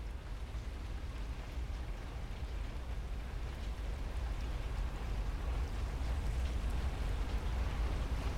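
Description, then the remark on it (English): Steady rain pours against window glass in a continuous, even wash of patter with a low rumble underneath, unbroken throughout, with no voices. “Rain streams down the glass and blurs his image.”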